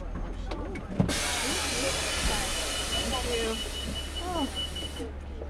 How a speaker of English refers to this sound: We've been on this bus bridge for 22 minutes now. We finally made it to Brooklyn. Now we're on our way to Rhode Island Avenue. It's been slow going